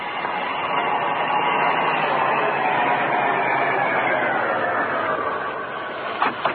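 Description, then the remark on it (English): A car's engine and road noise hold as a steady, broad rumble, then ease off as the vehicle slows to a stop, ending with a couple of brief knocks. No one speaks. “There comes a car now”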